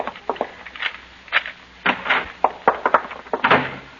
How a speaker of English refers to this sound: Get the door open fast.